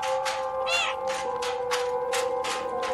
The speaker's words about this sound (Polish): Słuchajcie, jak się 100 razy miałknie, to podobno jest jakieś trofeum.